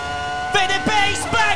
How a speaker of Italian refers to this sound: Grande, questo era Michael Schumacher a Monza 2005 sulla Formula 1 V10. V10 Ferrari, incredibile bontà del motore, un suono proprio afrodisiaco.